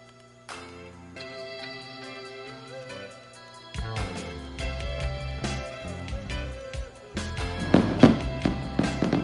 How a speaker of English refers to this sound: As the fireworks reach the finale here at Keesler Federal Park in Biloxi, we're wrapping up everything on the Ground Zero Blues Club postgame show.